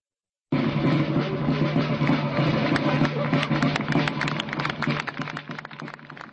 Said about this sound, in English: A drumbeat from soldiers in Napoleonic uniforms and broken applause greets the unveiling at the Slavkov or Austerlitz battlefield near Brno on Sunday of a statue featuring a horse rising up at the moment it has been hit by a bullet in battle.